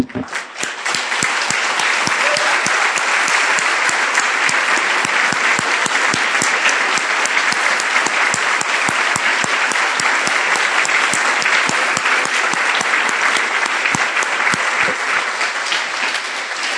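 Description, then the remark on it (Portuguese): An audience applauds Jesus steadily and loudly, a dense wash of many hands clapping with sharp individual claps poking through, sustained without a break for over fifteen seconds. “Ah, vamos aplaudir a Jesus.”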